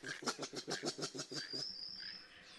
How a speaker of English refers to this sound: And in the background, something that attracted my attention is this huffing sound, which I immediately realized was not a bird and had a very mammalian quality.